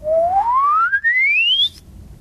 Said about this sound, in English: So these are different techniques that you can use for whistling. Glissando.